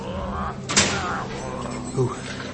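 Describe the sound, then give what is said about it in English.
A heavy prison cell door swings and slams shut with a single loud clang as a captive is shoved into the cell, followed by a softer knock, over a low, murmuring background. “The captive Duodin was herded towards the open cell door and shoved through by the Hearthguard's magma pipes.”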